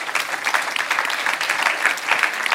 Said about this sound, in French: On peut applaudir, oui.